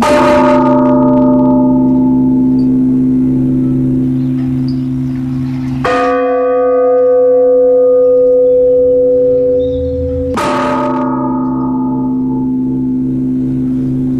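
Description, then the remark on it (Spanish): Church bells toll a slow death knell because someone has died, three deep, resonant strikes spaced several seconds apart, each ringing out and lingering with long humming overtones. No voices are heard. “Alguien ha fallecido y las campanas doblan a muerto.”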